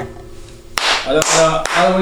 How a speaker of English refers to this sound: All right, real take. Do you want me to clap? I'll clap.